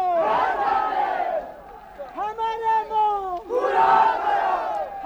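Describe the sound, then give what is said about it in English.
Several hundred angry Zanskaris in Padam, the capital of Zanskar, shout slogans in unison, loud rhythmic bursts of chanting "Zindabad!" and "Azad Hindustan!", with a single voice leading a call in between before the mass of voices roars back. “No laundrymen, just several hundred angry Zanskaris.”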